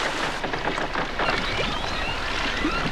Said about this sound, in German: Sie legten an, verteuten das Boot und gingen zum Lagerfeuer hinüber, wo sich die anderen versammelt hatten.